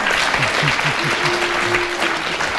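studio audience applause

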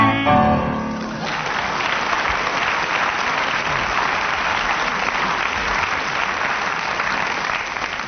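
audience applause

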